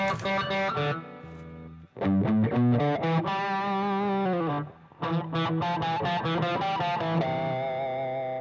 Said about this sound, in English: I think I'm using distortion there, right? We're using the Quilter amp.